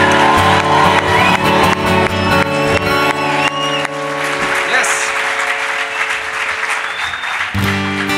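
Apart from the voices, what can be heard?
audience cheering and applauding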